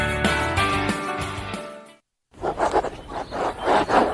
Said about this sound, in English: Hear that? The sound of your antique fountain pen gliding across linen paper as you journal in the park.